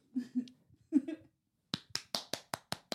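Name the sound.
single hand clap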